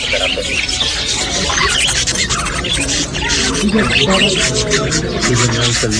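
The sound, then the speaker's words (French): Large green parrots overhead squawk and screech repeatedly over a dense, bustling market din, with indistinct voices and rubbing, scraping noises filling the background throughout. “il y a des gros perroquets, il a des gros perroquets verts là au-dessus qui sont très beaux”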